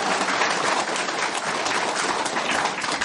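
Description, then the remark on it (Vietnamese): A steady wash of audience applause welcoming the Buddhist lecturer Thượng Phước Hà Tiến, abbot of Tường Vân monastery, before a Dharma talk. Many hands clap together in a dense, continuous patter that stays loud and even throughout, with no voices rising above it. “Đại chúng cho một tràng pháo tay để chúc đón.”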